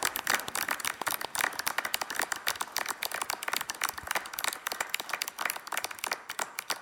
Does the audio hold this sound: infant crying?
no